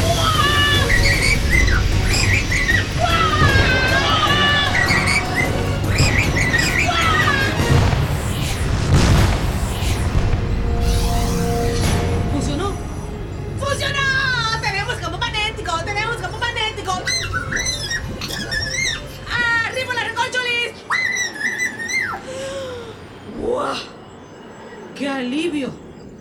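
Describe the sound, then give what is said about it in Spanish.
A huge meteor shower pounds down in heavy, rumbling booms and crashes, loudest in the first half, while high squeaky, chirping cartoonish voices chatter over and after the barrage. “Ni siquiera una lluvia de meteoros la hace desistir de su misión.”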